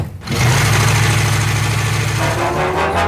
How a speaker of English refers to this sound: What you get, man? Let's see, I got air conditioning, yeah. AM and FM, deluxe wheel covers, ooh. And oh yes, an engine.